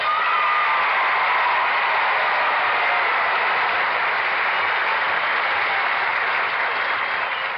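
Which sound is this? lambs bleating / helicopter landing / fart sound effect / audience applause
audience applause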